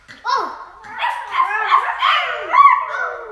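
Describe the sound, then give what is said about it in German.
A child's voice imitates a dog, producing a run of high, yappy bark-like sounds and whimpers over a few seconds, moderately loud. “Und der Hund?”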